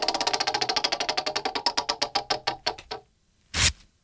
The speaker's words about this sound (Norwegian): Åh, hørte dere det? Ok. Det var jeg som rev i stykker noe vi bruker hver dag, nemlig en rute med dopapir.